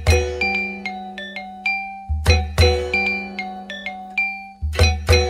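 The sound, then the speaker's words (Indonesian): A traditional kendang ensemble of kenong, kendang, trumpet and gong from kampung Lewi Badak plays at a village celebration, a steady, lively rhythm: ringing metallic kenong and gong tones sustain over repeated deep hand-drum strikes, fairly loud, with no voices. “Musik kendang yang terdiri atas kenong, kendang, trompet, gong, dan lain-lain dari tadi tidak pernah berhenti dimainkan.”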